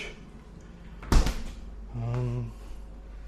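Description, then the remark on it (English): A fridge door shuts with a single solid, dull thud as someone checks the fridge while packing up to leave, followed a moment later by a short low hum before the steady background settles again. “Checking the fridge.”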